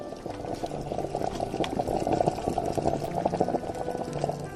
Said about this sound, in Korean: 이미 가스레인지 위엔 커다란 냄비가 올라와 있었고, 그 안엔 튼실한 토종닭 한 마리가 들어가 있었다. 우유빛 육수를 내며 보글보글 끓고 있었다.